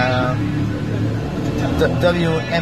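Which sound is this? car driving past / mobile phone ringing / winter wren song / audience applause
car driving past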